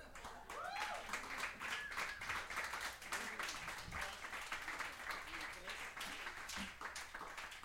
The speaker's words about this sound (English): Mom, I don't know if the mic got that, but that was a big applause.